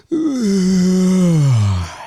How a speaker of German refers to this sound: Habe ich gegähnt oder wie? Ja, hast du.